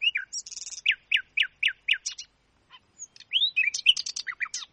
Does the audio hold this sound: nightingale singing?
yes